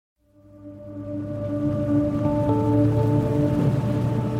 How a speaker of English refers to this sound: Miserable, miserable day on so many levels. Indeed. It's raining.